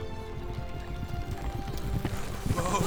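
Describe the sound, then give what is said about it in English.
Horses' hooves clip-clop in a steady, busy rhythm, several animals trotting together at moderate loudness, carrying riders hunting a white stag toward a thicket, with no voices over the hoofbeats. “Fair consorts, let us now alight from our horses and follow this white stag into the thicket.”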